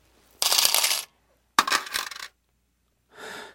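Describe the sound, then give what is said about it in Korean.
Three silver coins, taken from a man's waistband, set down on a table in three separate bursts, each a bright, ringing metallic clatter and jingle lasting under a second, the last one softer. No one speaks. “왕룡은 허리춤을 더듬거리더니 은화 세 잎을 탁자 위에 내놓고는 찻집에서 노름을 하게 될 경우를 생각해 넣어둔 은화 한 잎까지 마저 내놓았다.”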